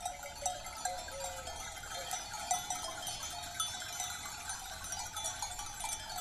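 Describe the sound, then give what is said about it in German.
Many small bells clink and jangle continuously from a grazing flock of sheep at Salto di Quirra, Sardinia, a dense outdoor tinkling with occasional faint bleats in the background. “Schafe gibt es auch heute noch am Salto di Quira, denn sie sind das Rückgrat der sardischen Landwirtschaft.”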